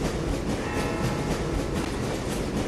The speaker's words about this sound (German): In diesem Moment befindet sich unser Zug im Herzen des Berges unterhalb einer Christusfigur. Sie markiert über uns auf dem Berggipfel die Grenze zwischen Argentinien und Chile.